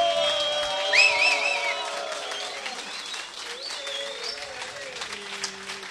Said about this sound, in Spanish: A ver, un fuerte aplauso, barullo, bulla.